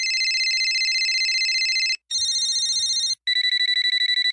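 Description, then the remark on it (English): A loud collage of telephone ringtones, specially composed for an exhibition display by a German sound artist: three different electronic ringing patterns play back to back, each a rapid, bright trilling tone, separated by brief gaps, with no one speaking. “This taste of modern life was specially composed for the display by the German sound artist ….”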